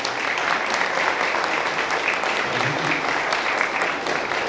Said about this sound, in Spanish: Bien, merece un aplauso, querido, de esta presentación.